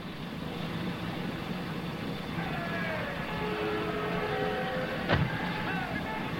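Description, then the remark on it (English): A car engine hums steadily, its pitch sliding down as the car pulls to a stop, followed by a single sharp thunk near the end as the passenger-side door is opened for the driver to get out. “David pulls his car to a stop and gets out on the passenger side”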